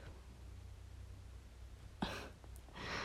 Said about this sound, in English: I'm sorry. I'm a yawning mess.